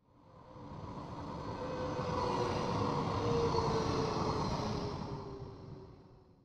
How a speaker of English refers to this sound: Oh no! Oh no! Here comes Tam in her steady green tram.